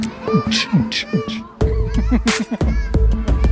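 A short upbeat musical jingle with tonal melody lines and crisp percussive hits, joined by a heavier bass beat about halfway through, playing loudly and alone.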